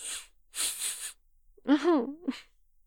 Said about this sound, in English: Oh. No, I had a sneeze. I lost it.